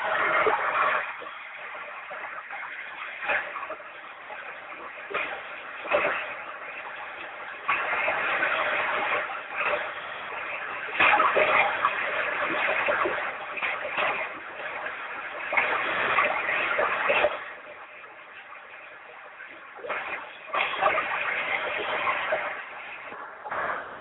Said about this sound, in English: And our water is flowing in the back, still water runs deep.